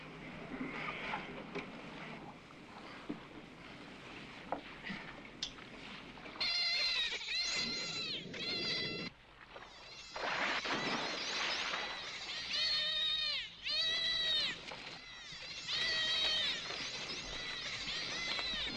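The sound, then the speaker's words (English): Tape recording of dolphin pack sounds: overlapping high, squealing whistles that sweep up and down in pitch, coming in dense bursts over a crackly, hissing background, with no one talking. “See, I have these tapes, the sounds of a dolphin pack.”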